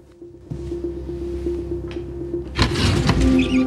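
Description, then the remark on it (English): A steady low hum runs underneath, then a desk drawer in a deserted criminal investigation department is pulled open with a rough sliding scrape and a soft rattle in the last second. No one speaks. “He looks at her desk drawer, then leans down and pulls it open.”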